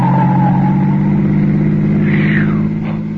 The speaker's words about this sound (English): Lordy, that was a close call. Why, it looked as if that car was deliberately trying to run you down.